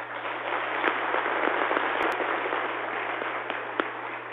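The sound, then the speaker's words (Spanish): A crowd applauding steadily for several seconds in La Guajira, Colombia, honouring Colonel Burgos, police commander of La Guajira, for rescuing six kidnapped people; a dense, even wash of many hands clapping with a few sharper claps standing out, over a low constant electrical hum. “Eso es un ejemplo y merece un aplauso.”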